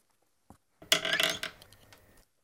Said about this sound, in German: Warte! Ich mach die Tür ein bisschen auf, dann kommt frische Luft rein.